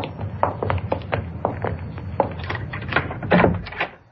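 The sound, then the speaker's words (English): A series of metallic clicks and rattles as a key works a lock, then knocks and a creak as a door is pushed open, over a low background rumble. “There's the door. It's shut.”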